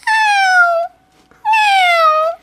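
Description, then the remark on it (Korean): A cat meows twice, loud, as it enters a barn, each meow a long drawn-out cry that slides downward in pitch, separated by a brief silent pause. “그러는 사이 맨 마지막으로 고양이가 헛간으로 들어왔다.”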